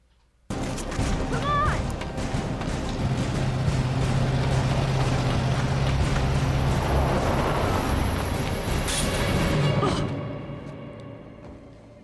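A loud truck engine roars steadily for about ten seconds, a deep rumble with rushing road noise, then cuts off and fades. No one speaks. It is from a Latino Victory Fund political ad against Virginia gubernatorial candidate Ed Gillespie, depicting a Republican truck mowing down children.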